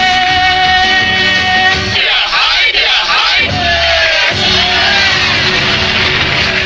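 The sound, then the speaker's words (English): A loud, dense pop recording with a strange shouted vocal, "hiya, hiya", played backwards in the middle, its sucked-in, swelling rise cutting across the music for a second or two before the song continues. “In case you missed what that little noise was in the midst of the record, and I mean in the midst of the record, it was hiya, hiya, backwards.”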